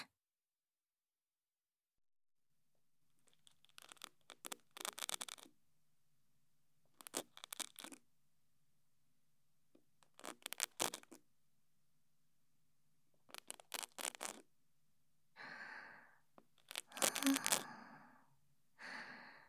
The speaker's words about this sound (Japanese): はい、それでは耳かきの方を失礼しますね。